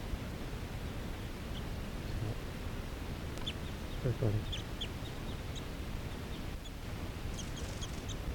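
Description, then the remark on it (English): Faint, short chirping calls of crossbills sitting in trees, scattered in small bursts over a steady background hiss of outdoor noise. “There's some crossbills sitting right here in the trees.”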